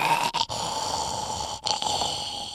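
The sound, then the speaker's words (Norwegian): A voice imitates a friend snoring while asleep sitting with head tilted back and mouth open, a steady, raspy rattling breath held for a couple of seconds, broken by two brief pauses, fairly loud with no other sounds. “Og jeg husker, det begynte med en kompis som jeg han satt og søvd, og da satt han med høyet kakka bak, og kjeften åpen, og satt og, det var sånn her snorking, sånn.”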